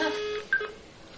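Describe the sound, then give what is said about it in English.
A steady telephone dial tone, heard through a USB telephone adapter on a computer, hums for a moment, then cuts to a short, sharp beep before fading into faint line hiss. No one speaks. “Because that's not a Marbell-type dial tone.”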